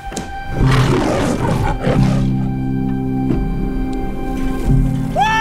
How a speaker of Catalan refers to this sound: Veig, ha aparegut, ja l'heu sentit, el lleó de la Metro Gold, a veure si ho diré bé, La Metro.